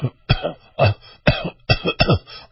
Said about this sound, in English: Did you notice anything about that? Well, I think he was coughing, right?